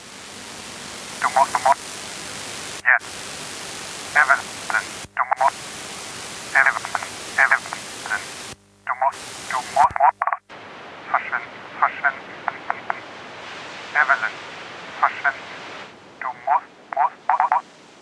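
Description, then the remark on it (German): Steady hiss of static from a radio whose tuning runs uncontrollably through all stations, cutting in and out abruptly, with faint, garbled voice-like fragments flickering through in short irregular bursts that never become intelligible words. “Es war, als könne sie Wortfetzen erkennen. Sie verstand jedoch nicht, was gesagt wurde.”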